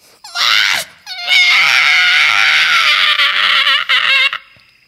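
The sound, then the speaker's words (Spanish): A howler monkey screams in terror, loud: a short shrill cry, then a long wavering, quavering wail that holds for several seconds before cutting off. “El zaraguato gritaba con tanto terror que se lastimó la garganta.”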